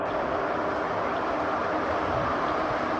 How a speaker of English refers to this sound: It's a little windy. Kind of sounds to me like wind. It was louder last night, but same sound. Just not as loud. But the same sound I've heard before. It was fainter.